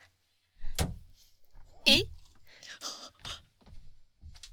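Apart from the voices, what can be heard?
door opening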